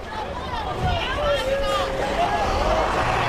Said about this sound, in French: Voilà, les bus viennent d'arriver ici à l'accueil. Plusieurs bus venus de quelques heures de route d'un autre camp.